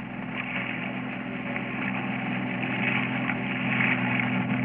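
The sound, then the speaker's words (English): A motorboat engine drones steadily over the open ocean at night, a low humming rumble with wash and wind noise that grows slightly louder as it draws nearer. No voices are heard. “It's a boat.”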